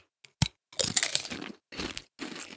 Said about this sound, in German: Boah. Oh ja. Boah. Oh. Merkst du das? Schmeckt voll rauchig. Was ist das denn? Das ist ja unfassbar. Ich habe noch nie solche Chips gegessen. Die sind krasser.